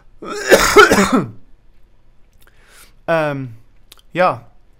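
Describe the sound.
A harsh, rasping cough and throat clearing, followed by two brief voiced sounds after a pause.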